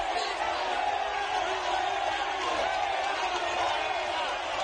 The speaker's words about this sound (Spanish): Celebración del Día Grande del Orgullo Gay. Ciudadanos quiere participar en la marcha y luego se tienen que ir. Entre gritos e insultos. ¡El orgullo estáis jodiendo! ¡El orgullo estáis jodiendo!